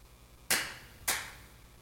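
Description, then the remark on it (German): Two sharp, loud hand claps about half a second apart, each with a short ringing decay, as an audience tries clapping together in unison. No one speaks. “Komm, wir probieren mal, ob wir klatschen können.”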